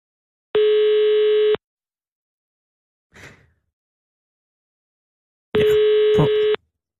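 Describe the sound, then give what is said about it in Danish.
A telephone ringback tone sounds twice while a call is placed to Poppen in Otterup, each a steady one-second buzz with a long pause between, heard clearly with a faint rustle in the gap. “Der er ringet op til tre. To af dem tog ikke telefonen, og den tredje havde ikke lyst til.”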